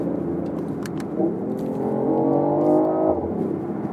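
A hybrid car engine revs hard, its harmonic whine climbing in pitch for over a second before dropping off, with a steady low rumble throughout and no voices.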